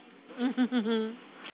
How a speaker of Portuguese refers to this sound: A porra dessa cachorra.